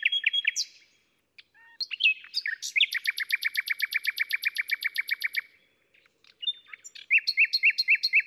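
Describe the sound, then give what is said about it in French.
A nightingale sings clear at night, shifting between varied phrases and a long, rapid run of repeated notes, with brief pauses between its outbursts, answering another nightingale far away. No voices are heard. “Et on entend qu'il répond à un autre rossignol au loin.”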